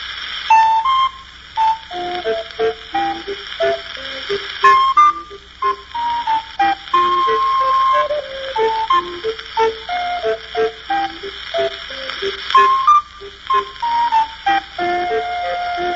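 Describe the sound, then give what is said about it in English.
The tune Oh Where, Oh Where Is My Little Dog Gone? played on an ocarina (sweet potato): pure flute-like tones stepping up and down in a lilting rhythm, mixing short tongued notes with smooth slurred ones, with no voices. “the ocarina or sweet potato is the first step toward playing more complicated instruments”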